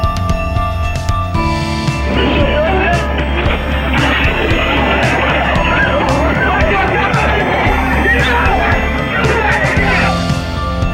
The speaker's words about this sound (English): The sounds changed to pandemonium. Now the president, appearing uninjured, is pushed into his car by a Secret Service agent.